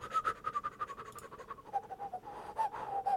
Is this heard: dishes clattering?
no